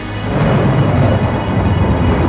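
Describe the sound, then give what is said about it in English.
Loud, continuous roaring thunder with rushing wind, a dense low rumble that swells in quickly and holds steady without a break. No voices are heard. “I said sound, and I heard roaring thunders and howling winds ripping the ground.”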